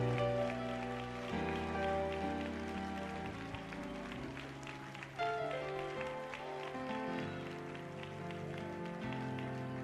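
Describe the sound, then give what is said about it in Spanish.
An audience applauds the Lord, clapping steadily in a dense, crackling wash of applause, heard over sustained keyboard or organ chords that shift slowly throughout, with a brief swell in the clapping near the middle. “Alguien que aplauda al Señor, recibe ahora.”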